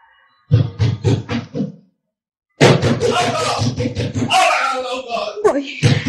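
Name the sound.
knocking on a door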